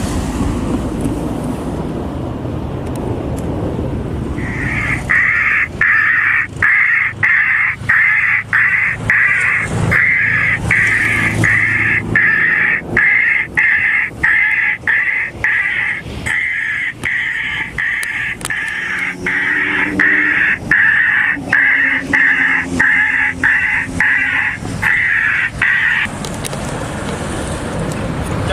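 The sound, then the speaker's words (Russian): Jackdaw distress calls blare from the loudspeaker of a Korshun bioacoustic bird repeller being tested on about ten jackdaws: a rapid, relentless series of harsh, raspy caws lasting about twenty seconds, with wind rumbling against the microphone before and after. “Молниеносно отреагировали на крики бедствия, покружили над нами и в панике улетели.”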